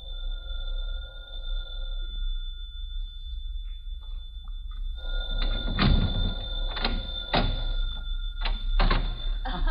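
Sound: telephone ringing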